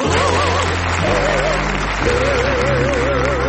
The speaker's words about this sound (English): It's now time to give a bow wow wow of applause